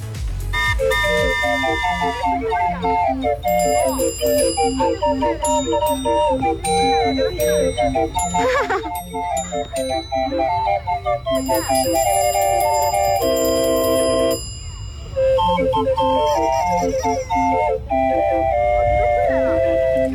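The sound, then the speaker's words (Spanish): An organillero's street barrel organ, a classic sound in plazas and corners of Chile, plays a bright, tinkling melody with steady pulsing bass notes and high bell-like chimes, continuous and fairly loud for the whole stretch with only brief dips. “Todavía están los organilleros en nuestro país y claro, nos evocan todos esos recuerdos bonitos”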